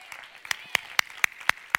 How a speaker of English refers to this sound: I will help you. I will help you clap on that.